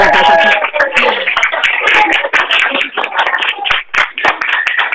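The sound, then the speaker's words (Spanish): A dense wash of audience applause fills the whole stretch, many hands clapping at once in a steady, loud roar with scattered sharper claps and faint voices mixed in. “Bueno, te iba a decir, están todos aquí pidiendo un aplauso, porque están todos haciendo claro gestos, que sí. Así que bueno, les vamos a dejar que den el aplauso.”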